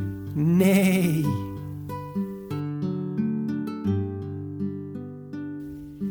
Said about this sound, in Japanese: 馬はヒヒーンって鳴くよ。